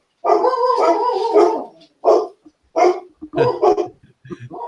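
A dog barks and yowls close by: one long, drawn-out bark-howl followed by several shorter, loud barks in an irregular run, with no talking over them.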